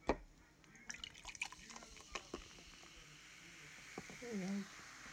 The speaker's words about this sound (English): Anyway, pouring out the fizz. I don't think you can hear this actually.